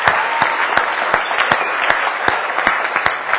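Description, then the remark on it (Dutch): A crowd applauds steadily, a dense wash of clapping with a few sharper, louder claps standing out at regular intervals. No one speaks over it. The applause is for the men of the Beeld en Geluid (sound and image) crew. “Dus ook daar dan even een applausje voor.”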